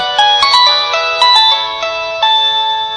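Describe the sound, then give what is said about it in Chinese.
A phone ringtone plays a bright, chiming electronic melody, a quick run of bell-like notes repeating at a steady pace, loud with no voices. “什么？接电话？”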